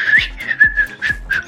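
Someone whistles a tune, the pitch wavering and breathy, over a steady, rhythmic low thumping beat. No one speaks.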